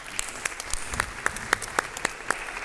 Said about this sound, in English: Let's clap our hands for him.